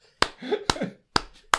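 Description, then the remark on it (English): Four sharp slaps land at an uneven pace, a person imitating naked bodies rolling about and smacking against a floor, with brief voiced mouth noises filling the gaps between them. “And all you can hear is dicks and tits slapping on the floor.”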